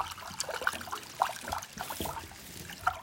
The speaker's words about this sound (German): Und wenn ihr ganz leise seid, dann hört ihr die Krokodile leise wieder zurück ins Wasser gleiten.